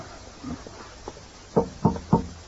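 Three firm, evenly spaced knocks on a door ring out near the end, preceded by a few faint, softer thuds against a quiet background.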